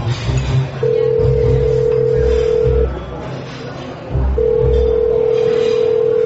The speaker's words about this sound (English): I'm gonna make a phone call. I think I saw a payphone back here.